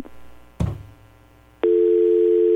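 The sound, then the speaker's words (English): A low clunk like a handset or line disconnecting as a phone call drops because of the phone line, followed by a steady, loud telephone dial tone that holds without a break. No one speaks. “I did not hang up on you, I promise. It's the phone line.”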